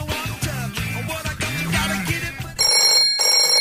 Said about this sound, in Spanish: Veo que suena el teléfono sin cesar.